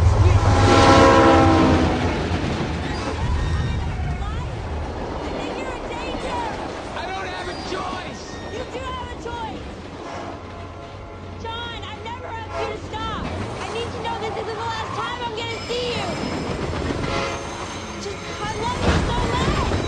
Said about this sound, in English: Ready. Start filming. Be extra loud when the train passes by. Here we go. And action!